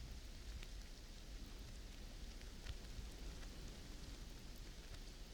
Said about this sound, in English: listen to the rain outside, honey.